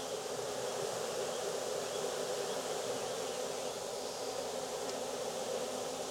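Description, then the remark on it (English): A dense, steady drone of many bees buzzing together in a container being shaken, continuous for the whole stretch with no pauses and no voices. “There are a lot of bees in there.”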